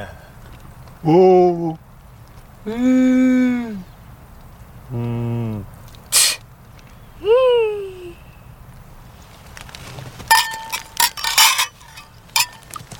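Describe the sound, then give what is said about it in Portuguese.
Men dressed as a goat, owl, bee, whale and llama take turns imitating their animals' calls at a champagne toast, a few drawn-out bleat- and meow-like cries with short pauses between, followed near the end by a burst of bright glass clinks. “No brinde, então, cada um deles emite o som característico do seu animal.”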